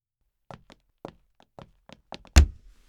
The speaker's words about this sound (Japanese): 壁ドーン。驚いた？一度やってみたかったの、これ。